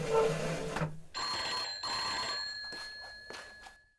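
A telephone bell rings in repeated bursts with a bright metallic jangle and sustained ringing tones, clear, with short pauses between rings and no talking.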